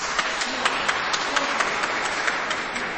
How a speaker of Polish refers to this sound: Tymi słowami bardzo gorąco i serdecznie pozdrawiamy słuchaczy Radia Maryja, widzów telewizji Trwam i uczynimy to bardzo gorącymi oklaskami. Brawa dla tych, którzy są razem z nami.